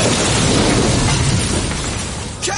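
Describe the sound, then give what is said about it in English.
A wrecking ball smashes into a house with a loud, sustained roar of crumbling, rumbling debris that stays steady throughout, ending with a brief sharper knock. “You smashed a massive hole in my house.”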